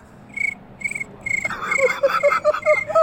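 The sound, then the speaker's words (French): Crickets chirp in steady, evenly spaced pulses, and halfway through a denser layer of quicker chirps joins in, filling the soundscape with a busy nighttime buzz. No one speaks. “Tu nous fais le bruit des grillons.”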